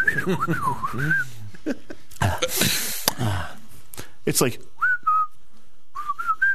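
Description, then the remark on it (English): A person whistles a wavering, sliding tune, stops for a few seconds of breathy noise and a brief spoken phrase, then returns with a few short whistled notes. “I can't even whistle.”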